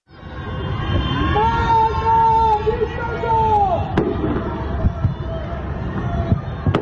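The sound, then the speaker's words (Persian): On the night of Tuesday 21 Bahman 1404, several citizens in the capital and other cities shout drawn-out anti-government protest cries from behind their windows over a steady low rumble, while sharp pops and bangs of a government fireworks display break through now and then. “در حالی که حکومت با برگزاری مراسم آتشبازی در تلاش بود فضای جشن و عادی سازی را به نمایش بگذارد، شماری از شهروندان پایتخت و شهرهای دیگر شب هنگام فریادهای اعتراضی از پشت پنجره ها سر دادند.”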